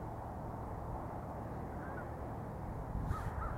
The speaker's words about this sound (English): I can hear an American crow.